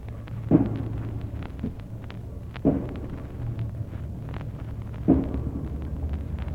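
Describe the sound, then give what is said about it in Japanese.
Building construction noise in Ginza at 3 a.m., picked up by a microphone set up at an intersection: three heavy, booming thuds land at a slow, steady pace about two seconds apart over a continuous low mechanical drone, with no voices. “これはハバナ午前3時ならぬビーディング建築の音も聞こえる銀座午前3時。”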